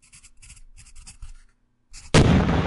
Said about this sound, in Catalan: Ma què, questo rumore? Què ha estat aquesta explosió? Aviam si algú més ho ha sentit.